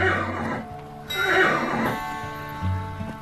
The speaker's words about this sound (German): Der Wind weht durch dein Haar und dein Pferd gibt hin und wieder ein zufriedenes Wiehern von sich.